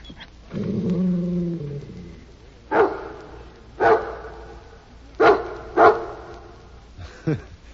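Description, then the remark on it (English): A dog named Rin Tin Tin gives a low, drawn-out growl, then lets out five sharp, loud barks at uneven intervals, two of them in quick succession. No one speaks. “Oh, this is your very own dog.”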